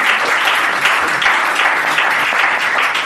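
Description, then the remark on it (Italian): Steady, loud applause from an audience for the director, a dense crackle of many hands clapping at once that holds at an even level throughout, with no talking over it. “Un applauso per il direttore, molto bravo.”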